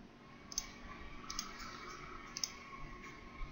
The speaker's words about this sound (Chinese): 专业版软件的话，点鼠标左键可以放大，右键可以缩小，这块也是一样的，这边也是一样的。